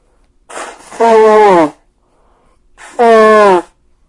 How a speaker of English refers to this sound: So hang on, I'm going to blow my nose first.